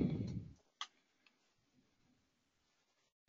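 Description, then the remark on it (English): A small chronometer clock ticks faintly, a few sharp, light clicks spaced apart after a brief low rumble fades at the start. “Well, my little chronometer clock is playing tricks on me here.”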